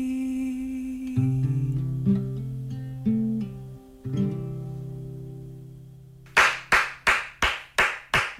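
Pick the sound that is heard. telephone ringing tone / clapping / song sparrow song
clapping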